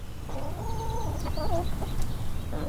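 Several backyard hens cluck and murmur close by in a steady, overlapping chatter while feeding, with soft pecking and rustling beneath a low outdoor rumble.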